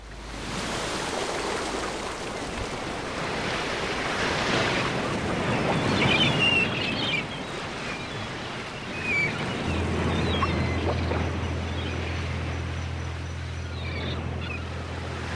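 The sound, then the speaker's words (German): Steady wash of ocean water in a bay with waves lapping and swirling, joined partway through by a low, constant rumble like an idling boat motor. No voices. “Wie eine Luftmatratze treibt die Schreibtischplatte unter uns auf den Wellen.”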